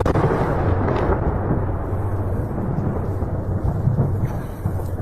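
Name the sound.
missile strike explosion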